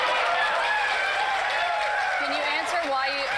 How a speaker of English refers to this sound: And of course, the sycophant crowd cheers.